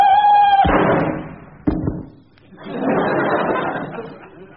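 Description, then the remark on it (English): Two sharp, loud cracks from metal toy guns firing cartridges, about a second apart, each followed by a brief rattle, after a short steady high tone and before a stretch of muffled clatter. “Proper guns, metal ones, all right? With cartridges, you know, that fire.”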